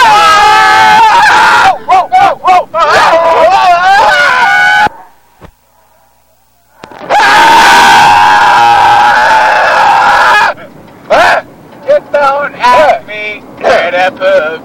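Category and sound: crowd, people screaming together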